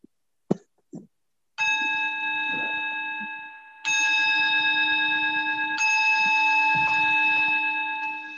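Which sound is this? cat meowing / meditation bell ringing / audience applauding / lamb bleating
meditation bell ringing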